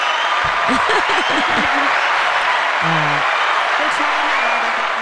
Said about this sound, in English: Hit the clap button. I'll give Marie a clap.